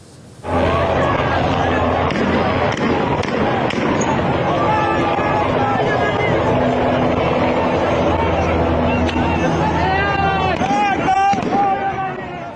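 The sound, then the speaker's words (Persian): A helicopter drones steadily overhead while sharp gunfire cracks ring out repeatedly at irregular intervals, loud, with people shouting in the background; reportedly in Shiraz, with shots apparently fired from the helicopter at people. “اما در همون شیراز ظاهراً با هلیکوپتر به همون مردمی که بهشون گل دادن تیراندازی شده.”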